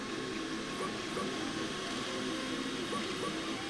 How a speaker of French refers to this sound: Le bruit des imprimantes 3D est le fond sonore de l'atelier Tech Chercheuse au LUNE, le laboratoire des usages numériques à Nantes.